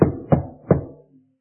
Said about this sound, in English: But he walked up to the door and he grabbed the handle and the door was locked. And so he began to knock.